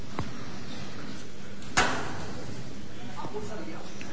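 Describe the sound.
A single sharp metal knocker (llamador) strike on a procession float rings out once, crisp, with a short decay, over a low murmur of background voices and crowd noise. The foreman strikes it at the doorway as the procession begins to leave.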